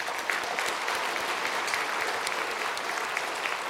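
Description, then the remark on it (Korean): A church audience applauds steadily, giving applause of glory to God, a dense wash of many hands clapping at a constant, fairly loud level throughout, with no voices standing out. “이분들을 통해서 역사하시는 우리 그 하나님께 영광의 박수를 한번 올려드리겠습니다.”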